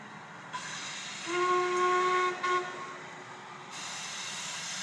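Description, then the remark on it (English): A steam train's whistle sounds a sustained, steady tone for over a second, rising over a constant background hiss and rumble of the train. “The steam train.”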